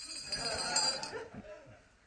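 A Tibetan ritual bell rings with a bright, high metallic shimmer that holds for about a second and then fades away, while a soft voice murmurs faintly beneath it.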